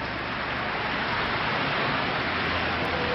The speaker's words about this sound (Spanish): mientras no deja de llover en esta capital.